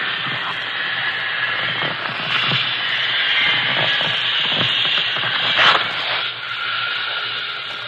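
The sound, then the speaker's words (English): A steady, loud rush of hissing air pours out continuously for several seconds as a rubber raft inflates from an opened valve near the water, with brief clicks and bumps underneath and no talking. “Now turn on the valve. Yes, sir. Oh, it's getting up fast.”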